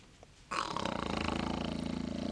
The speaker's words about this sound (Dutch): Ik geloof dat de reus slaapt. Ja. Wat snurkt hij, hè?